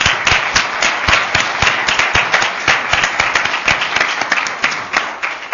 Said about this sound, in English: Yeah, oh, Chief Judge, thanks for the openings. Let's give Chief Judge a round of applause.